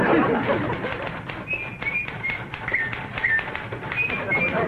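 A person whistles a wavering tune of short, high notes, starting a little way in and continuing in quick bursts over a steady background of muffled rustling and tapping.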